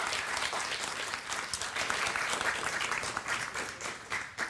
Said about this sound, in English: You are a living legend, and she deserves the biggest round of applause for being that. We don't see that every day.